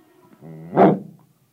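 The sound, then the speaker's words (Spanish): A single dog bark, loud and sharp, preceded by a brief whiny, tonal rise, heard alone with no talking. “Desde que el mundo fue creado, los perros y los gatos andamos peleándonos.”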